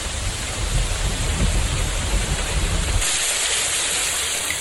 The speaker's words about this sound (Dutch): buiten bleef het maar regenen, lijk gij lieden dat ook kent in Brugge.